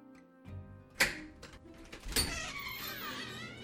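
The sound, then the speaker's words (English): A heavy, black, unmarked metal door inside Assembly Hall at Indiana University is pushed open: a sharp clunk of the latch, a scraping creak, then a second loud thud as it swings wide, over a low steady hum. “This is it, Indiana University Facilities Director Chuck Crabb says as he pushes open the door.”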